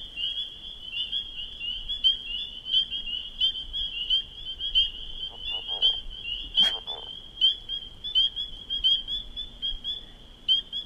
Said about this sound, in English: Was a leopard frog again. Sounds like it may have been swimming underwater. They sing while they're swimming underwater.